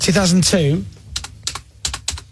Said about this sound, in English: It's like you typing